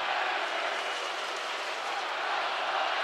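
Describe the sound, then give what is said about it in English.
A loud, dense roar from a packed basketball arena crowd of Wisconsin Badgers and Gopher fans late in the game, steady and unbroken, with cheering, shouting and scattered clapping blending into one continuous wall of noise. “And now it gets a little spicy in the crowd.”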